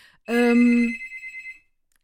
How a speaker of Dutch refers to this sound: Ik hoor een telefoon gaan en daar gaan we even helemaal niks mee doen. Misschien is het wel mijn telefoon die daar ligt. Nee. We laten ons verder niet afleiden door die telefoon